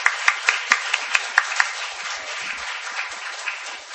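Audience applause for a family as they walk back through the middle, starting with a few crisp, evenly spaced claps that soon merge into a steady, dense wash of clapping at moderate volume, with no voices.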